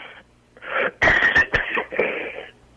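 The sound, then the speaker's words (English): A short fit of coughing from someone with a cold: a few harsh, raspy bursts, one sharp and abrupt, mixed with wheezy, strained breaths, fairly loud and with no talking over them. “Sorry, cough.”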